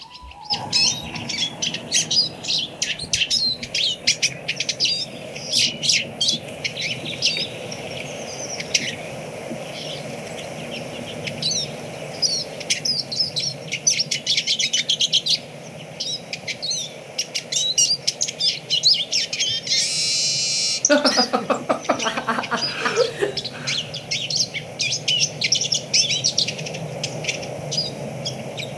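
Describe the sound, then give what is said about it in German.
A Eurasian siskin sings a long, rapid twittering song of high chirps and trills, fairly loud, with a drawn-out wheezy note late in the phrase before the chatter resumes. “Dann hören wir jetzt einmal den Erlenzeisig uns an.”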